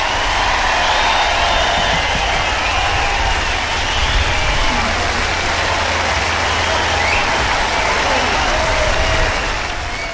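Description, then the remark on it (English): Sustained, dense applause from a large audience at the 52nd Annual Monterey Jazz Festival fills the whole recording, steady and loud with scattered cheers and whistles rising above the clapping, no speech in the foreground. “a wonderful round of applause from a very appreciative audience at the 52nd Annual Monterey Jazz Festival.”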